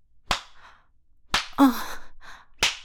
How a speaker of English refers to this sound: Oh my God, stop slapping my ass. Well, I don't actually mean stop. You can keep going.